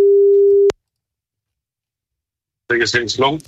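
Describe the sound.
A single steady, low-pitched ringing tone of an outgoing telephone call, placed by a radio station to a prize winner, sounds for under a second and cuts off with a click, followed by silence and then a voice speaking.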